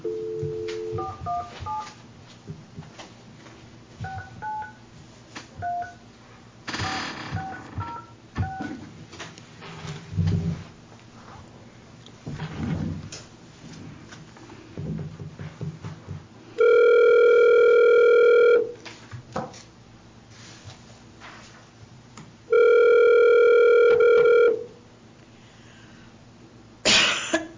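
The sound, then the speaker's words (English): A phone being dialed during a meeting to call Tall Timbers, with quick beeping tones, followed by two long, loud steady tones with a short pause between them, plus a cough and faint background noise. “I'm going to try to call them one more time.”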